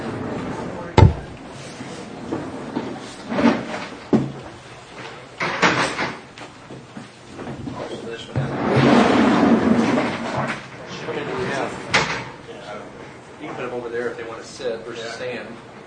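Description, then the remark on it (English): Chairs and a table being shifted into place to seat board members up front: a few sharp knocks and thuds, a longer scraping drag in the middle, with people murmuring in the background. “And if you guys want to, if I can get another chair down here, a couple more, but we can move that microphone down here if we want all the board members up here.”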